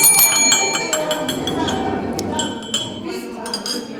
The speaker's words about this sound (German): Wo ist deine Glocke? Hallo, meine Glocke hier.